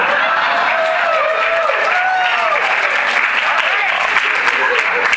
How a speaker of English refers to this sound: Y'all clap now because maybe you won't be clapping later. We'll see.